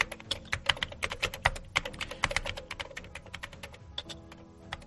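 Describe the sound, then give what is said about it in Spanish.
Dense, rapid clatter of many computer keyboards being typed on at once, overlapping keystrokes forming a busy continuous patter at moderate volume, with no voices. “Mogollón de teclados no pararon de funcionar.”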